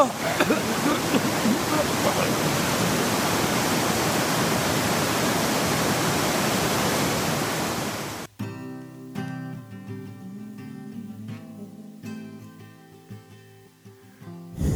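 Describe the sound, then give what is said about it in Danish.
Loud, steady roar of rushing water flooding in fills the first eight seconds, then cuts off abruptly, giving way to quieter, sustained musical tones. “Det er jo bare vand der udenfor.”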